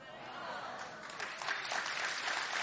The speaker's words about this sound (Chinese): 你要鼓掌，热情的鼓掌。